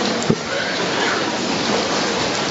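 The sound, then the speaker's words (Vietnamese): Steady rain falls throughout, a dense, even hiss of drops with a brief tap near the start, fairly loud, with no voices standing out. “Đó, khỏi mưa.”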